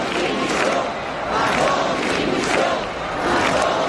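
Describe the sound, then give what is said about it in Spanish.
A large street protest crowd in Valencia chants in unison, demanding the resignation of Carlos Mazón at the tenth protest over the handling of the DANA flood, loud and rhythmic, with the massed voices swelling and dipping roughly every second in a steady repeating cadence. “Y empieza en Valencia, donde de nuevo miles de personas han salido a las calles para pedir la dimisión de Carlos Mazón.”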